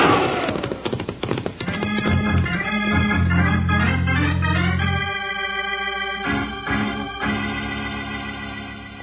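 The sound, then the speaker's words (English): Rapid, rhythmic hoofbeats of galloping ponies clatter at the start, quickly swept under a loud, swelling burst of sustained music that carries through to the end. “Fight up these ponies and let's get through the pass.”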